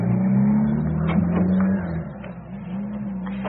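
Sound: car driving away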